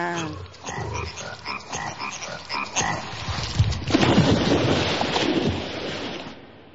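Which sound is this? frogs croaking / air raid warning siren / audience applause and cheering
frogs croaking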